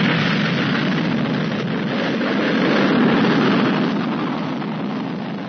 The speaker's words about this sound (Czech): Konačno je i sam čovek zakoračio u kosmos. Sa kosmodroma Bajkonur u Sovjetskom savezu, lansiranjem Vostoka 1, započela je nova era u osvajanju svemira.